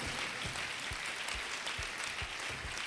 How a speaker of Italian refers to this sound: Noi abbiamo fatto patto col Signore attraverso il sacrificio che ci è stato dato della croce del nostro Signore Gesù Cristo, che applaudiamo e lodiamo.